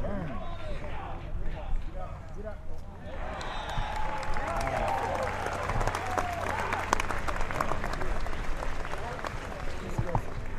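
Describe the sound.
A golf gallery murmurs quietly as Zach Johnson hits his approach shot on the third hole, then breaks into loud, dense applause when the ball lands on the green, continuing to the end, with scattered voices and cheers mixed into the clapping.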